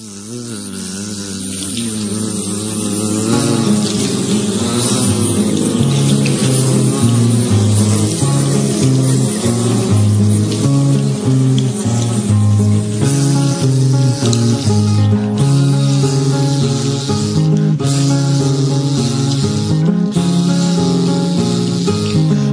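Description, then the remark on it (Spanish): A dense, continuous drone of bees buzzing in flight early in the morning on the coast near Santander, loud, with overlapping wingbeat tones that waver in pitch; it swells up over the first few seconds and then holds steady without any voices. “Las abejas muy temprano en la mañana a buscar el poder. Bueno, estamos escuchando esto.”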